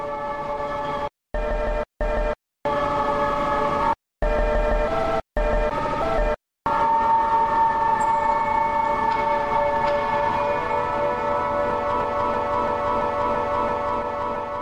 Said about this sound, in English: There's just a ton of different things that you can do to just mess up the audio file itself and just kind of get these messed up weird tones.